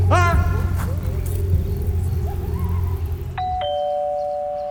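An electronic doorbell chimes two tones, a higher note falling to a lower sustained one, ringing out clearly after several seconds of steady low rumbling background noise.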